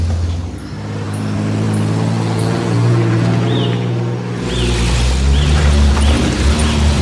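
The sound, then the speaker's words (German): A steady low engine hum from inside a moving car in Australia, with a constant rumble and road noise that swells a little partway through; no one speaks. “Aber wir sitzen hier im Auto, da sind wir sicher.”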